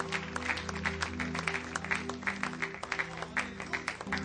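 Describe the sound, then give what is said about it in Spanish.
An audience claps steadily as applause for the Lord, dense overlapping handclaps over a low sustained hum of music or organ, with no voices standing out. “Dele un aplauso, Señor, con todo su corazón.”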